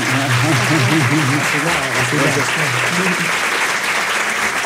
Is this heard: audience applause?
yes